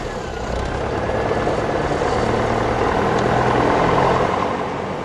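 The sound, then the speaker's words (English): The piston engine of a Piper Cherokee 180 light aircraft at the El Dorado airstrip runs with a steady, loud droning roar that starts after a brief moment and holds at an even pitch, with a rumbling low hum underneath. “rolls back the hangar door at the El Dorado airstrip to reveal his Piper Cherokee 180.”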